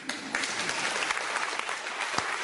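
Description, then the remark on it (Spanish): Steady audience applause, a dense crackle of many hands clapping at a constant level with a few sharper individual claps standing out, no voices over it. “Fue tan digna, yo creo que, como la reacción del público.”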